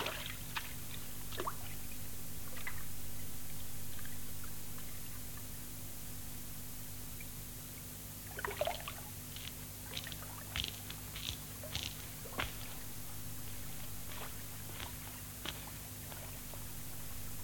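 A hand splashes and dips in river water, with scattered irregular sloshes and drips, a few louder clusters later on, over a steady low hum and hiss. No one speaks.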